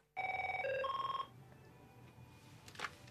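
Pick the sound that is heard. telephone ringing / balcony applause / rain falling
telephone ringing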